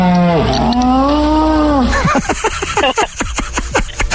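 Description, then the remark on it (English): A moose call: one long, low, moaning bellow that holds steady for about two seconds, then breaks into a quick run of short, choppy grunts. “They're going to make you make like a moose. So, if your phone rings, you have to answer with your best impersonation of this.”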